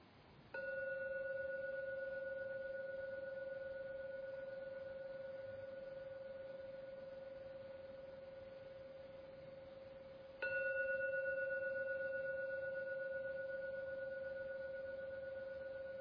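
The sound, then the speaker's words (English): A Korean gong is struck twice, about ten seconds apart, during a meditation session. Each stroke sets off a loud, steady, humming mid-pitched tone that slowly fades, with no talking. “I'm now going to ring the gong 3 times. Keep your eyes closed until the last ringing vanishes, just to enjoy the sound of a Korean gong.”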